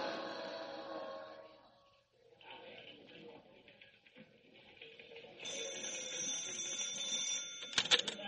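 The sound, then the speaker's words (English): A fire alarm bell rings insistently for a big four-alarm fire in a town amid a busy, noisy scene, swelling louder in the later seconds before a few sharp clanging hits near the end. “Didn't I hear the chief say to send in another alarm? Yeah, that makes four.”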